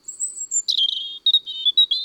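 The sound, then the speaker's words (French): A European robin sings a high, thin, improvised warbling song alone, defending its territory, with light trills and short varied phrases broken by brief pauses, clear. “C'est un chant improvisé, très aigu, une sorte de gazouillis léger et délicat.”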